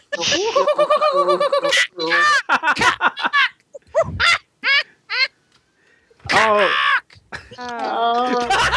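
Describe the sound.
Someone squawks and warbles in a loud voice, mimicking a tropical bird call in a string of rising and falling cries with short pauses between bursts.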